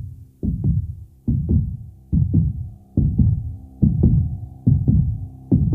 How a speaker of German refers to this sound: weil das Lied mit einem Herzschlag beginnt